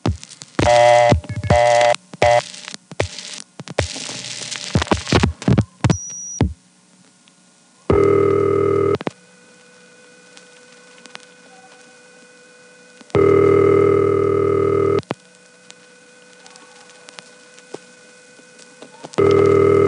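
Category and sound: signal or alarm, telephone ringing continuously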